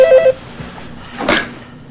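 A brief burst of electronic telephone ringing, a few quick warbling tones at the start, then near-quiet with a soft, breathy exhale as a woman lets out a deep breath while a man answers her phone, no voices.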